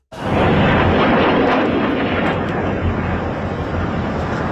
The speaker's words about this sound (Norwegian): Iran skjøt en stor mengde raketter mot Israel, og både i storbyene Tel Aviv og Jerusalem ble det hørt eksplosjoner.